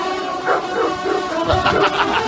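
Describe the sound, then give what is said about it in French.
A pack of hunting hounds at the Saint-Hubert hunt festival in Fontainebleau, France, during a hunt with hounds (chasse à courre), bays and barks together, their overlapping voices forming a continuous, echoing chorus, swelling louder toward the end. “Et c'est les chiens aussi.”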